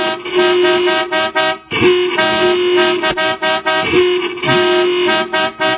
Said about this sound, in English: Honk if you love Jesus. Listen to him.